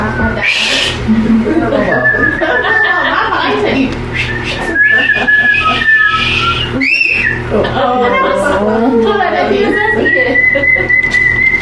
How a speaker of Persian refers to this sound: مشکم بزن، سوت بزن. سوت زدن آنن ذهن خاموش میکنه.